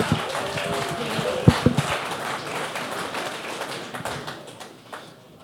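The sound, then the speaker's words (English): A crowd claps steadily in a dense, sustained burst of applause that carries on for several seconds before thinning out toward the end, with a few louder individual claps near the start. “Everybody, a round of applause.”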